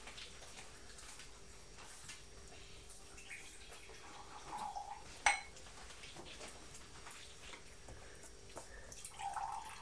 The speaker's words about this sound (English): Pouring the tea from the teapot into the cup. Mmm. It's not actually a cup, it's a mug, isn't it?